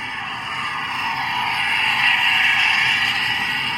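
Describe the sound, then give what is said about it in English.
Underwater recording of a recreational vessel approaching and passing close by in an area busy with recreational boat traffic: a steady, hissing engine drone that gradually swells in loudness, peaking toward the end, with no voices. “So now you can hear the vessel approaching.”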